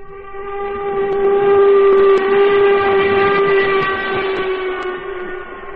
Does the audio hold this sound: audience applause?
no